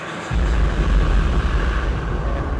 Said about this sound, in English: This is how real astronauts sit during the shuttle launch, except real astronauts wear 90-pound pressure suits and don't carry car keys. Main engine start should begin in about 2 seconds.